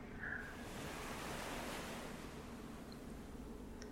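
nature, ocean waves

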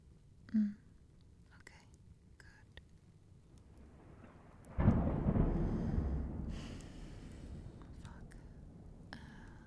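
nature, thunderstorm thunder rumbling

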